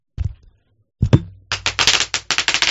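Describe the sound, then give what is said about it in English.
A few scattered pops give way to a dense, rapid crackle of bubble wrap bursting under a rolling chair, loud, with bursts arriving in quick irregular clusters and no talking. “I'm running over a pack of peanuts over in my chair. Pop paper, yeah.”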